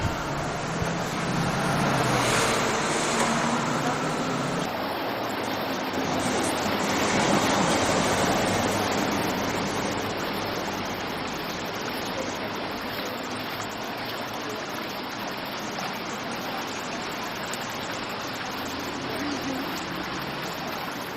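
wind blowing outdoors

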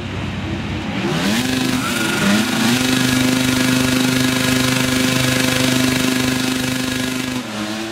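racing motorcycle engines revving

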